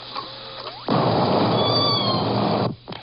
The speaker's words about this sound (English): Then we'll do the kitten-like call, the mew, which is S16. S16.